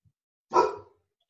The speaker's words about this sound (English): And I hear a dog.